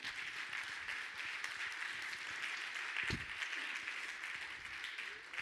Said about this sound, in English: Get a lot of hand clap.